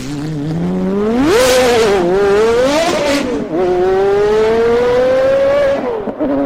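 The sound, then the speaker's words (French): A sports car engine revs hard and climbs through the gears, its loud, rising whine sustained, with a brief dip between shifts as it races along. “il faut éviter de vous croire comme dans Fast and Furious. Laissez votre voiture de sport de côté.”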